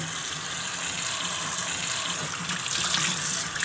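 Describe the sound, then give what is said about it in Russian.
Water runs steadily from a tap, a continuous bright hiss of splashing with a slight surge in intensity toward the end. No one speaks. “Смотри, не набрызгай, а то мама рассердится.”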